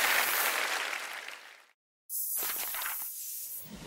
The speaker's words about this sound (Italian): Un applauso a tutti, grazie.